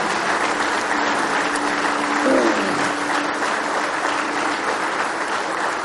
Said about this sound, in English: Praise the Lord. Somebody say praise the Lord. Let's just give him a real good hand clap of praise this morning.